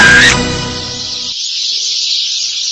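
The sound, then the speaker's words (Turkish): A dense, unbroken wash of sparrows chirping loudly in early summer, their breeding season, in Aghdam, Azerbaijan: a constant high twittering din, with low tones underneath at first that cut out after a moment. “Sərçi cıvıltısından qulaq tutulur.”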